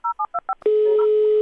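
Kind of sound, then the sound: signal or alarm, telephone number being dialed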